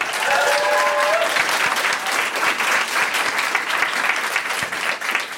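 Steady, dense audience applause, loud and sustained throughout, a broad crackle of many hands clapping, with a brief faint whistle-like tone near the start.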